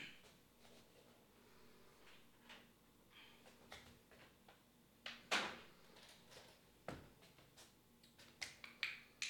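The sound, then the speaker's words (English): Old wooden floorboards beneath a carpet creak and pop underfoot, a scattering of irregular sharp clicks and dull knocks, fairly quiet, with no voices. “There's creaky old wooden boards underneath my carpet.”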